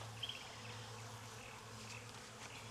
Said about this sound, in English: I mean, obviously you gotta be careful, and I'm trying not to shake the bees.